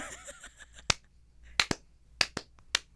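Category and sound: human body sound, slow hand clap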